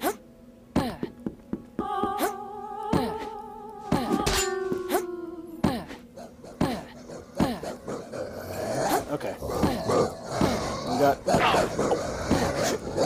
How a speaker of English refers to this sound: Multiple dogs. Divide and conquer. Oh God, these things are fast.